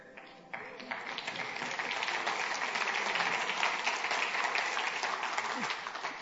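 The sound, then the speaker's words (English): An audience breaks into applause for another city, a dense, steady patter of many hands clapping that swells after a brief start and holds at a fairly even level throughout. “So you're just clapping another city.”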